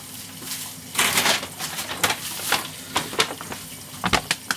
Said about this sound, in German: Dann stelle ich eine Rascheltüte daneben.